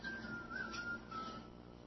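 A thin, wavering whistle drifts along in the background, steady and faint, sliding slightly in pitch over a low hum with no voices on top.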